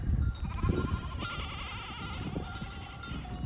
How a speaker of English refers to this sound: Now, really modern city, you can just see shepherds coming with hundreds of sheep. And so when I saw that scene that morning, I instantly thought I need this picture. So I was just jump in the middle of the herd, and then they were very friendly.